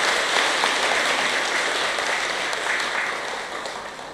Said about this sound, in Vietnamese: Nhân dịp này đó, xin cho một tràng vỗ tay thật lớn nữa để tán dương.